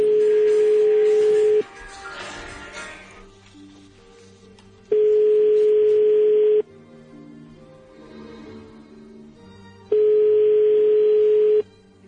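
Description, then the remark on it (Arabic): A telephone ringback tone from a call to the municipal council of Skhirat sounds three times, each ring lasting under two seconds with long gaps between, loud and steady, while quieter background music plays underneath. “الهاتف في بلدية ديال الصخيرات يرن.”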